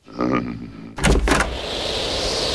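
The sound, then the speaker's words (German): A door is opened for an arriving visitor with a short creak, then a couple of sharp clunks from the latch and handle, followed by a steady hiss of background air or ambience. “Machst du bitte mal die Tür auf?”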